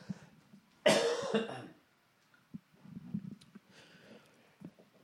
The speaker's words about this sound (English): I just noticed I've probably been coughing like every 5 fucking seconds on this. I apologize, but I'm not going to take a cough drop.